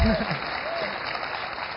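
A crowd applauds steadily in a dense, even wash of clapping that stays at a constant moderate level, with a couple of brief high vocal whoops rising over it at the start.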